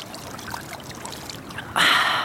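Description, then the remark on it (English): A steady babble of flowing stream water, then a sudden loud splashing rush as a hand scoops up a big handful of cold water and it pours off, lasting to the end. “Right, I'm going to take a big handful.”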